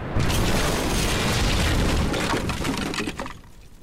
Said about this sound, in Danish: Og forestil dig lige, hvordan det vil være at blive mødt af en kanonkugle på størrelse med en bowlingkugle, der i høj fart suser gennem luften og smadrer mod siden af det træskib, du sejler i.